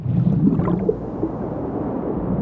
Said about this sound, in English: So you can hear that that kind of running water sound was going to help us in the lower frequencies.